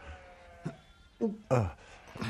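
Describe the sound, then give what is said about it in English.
Several sheep bleat in short, wavering calls, a couple of them loud and strained, with brief pauses between them and no talking. “Just me and the boy. And the sheep for company.”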